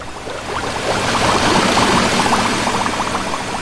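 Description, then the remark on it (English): Steady underwater bubbling under the sea fills the scene, a dense, continuous gurgle of rising bubbles with a muffled wash beneath, fairly loud and constant throughout. “We're under the sea”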